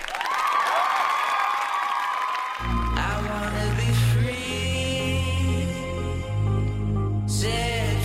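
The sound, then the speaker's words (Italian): A few seconds of lively crowd applause with some cheering, quickly overtaken by a loud music jingle with deep sustained tones that carries on to the end. “E quindi un applauso, immaginando che la regione Abruzzo coglierà questo nostro allarme preventivo.”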